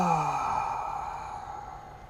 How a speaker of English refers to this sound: We're going to do some breathing. We always breathe, and I'd like you to breathe. Take a deep breath in right now. As deep as you can, and exhale.